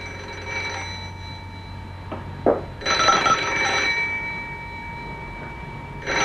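A telephone bell rings in a couple of ringing bursts against a steady electrical hum, clear, with no one speaking.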